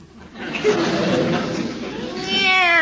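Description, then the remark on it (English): A cat meows loudly, a drawn-out, wailing yowl rising out of a brief stretch of scuffling noise and ending in a strained, high cry. “Meow. Oh, no. That poor bird.”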